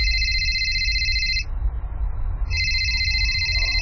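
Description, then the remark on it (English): A phone rings with a loud, steady electronic trill that cuts out briefly for a burst of hissy noise, then resumes, over a low background rumble. “Sevier is smiling at his ever-helpful nature when her phone rings.”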